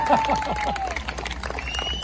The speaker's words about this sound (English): I guess I should stop for a second to let you guys clap if I had to.